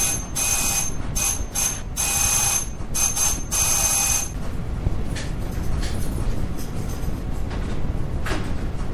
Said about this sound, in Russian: О, тихо, кто-то звонит в дверь. Тихо, тихо, тихо.